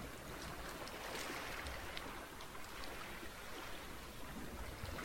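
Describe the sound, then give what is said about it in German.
Ocean waves at the shore make a steady, full rushing wash that stays even throughout, with no distinct individual breakers standing out and no voices. “Und sitzt oder liegst einfach nur so da und hörst den Wellen.”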